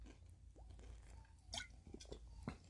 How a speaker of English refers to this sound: I'm going to take another drink of this pop.